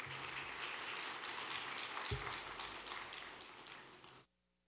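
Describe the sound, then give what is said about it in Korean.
A crowd claps steadily in a dense, even wash of applause welcoming a trainee singer to perform, holding for about four seconds, then cutting off abruptly into silence. No one speaks. “큰 박수로 맞이해 주시기 바랍니다.”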